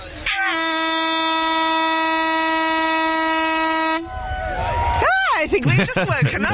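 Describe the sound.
A single loud air horn blast, held up in the air and fired in Reading after a three-two-one countdown, holds one steady, brassy pitch for about three and a half seconds, then cuts off abruptly as voices start talking.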